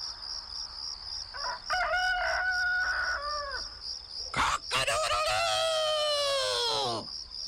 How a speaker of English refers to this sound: Says a rooster.